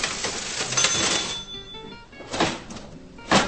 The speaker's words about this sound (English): The large metal till at U Salvatora is the kind of contraption one would normally find in a museum, with a handle and keys similar to those on an old typewriter.